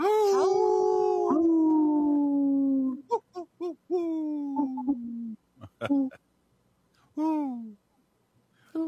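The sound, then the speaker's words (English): A long, steady howl slowly sliding downward, followed by a series of shorter, broken hoot-like calls, fairly loud, with an owlish hooting quality rather than a full wolf howl. “That sounds more like an owl than a wolf.”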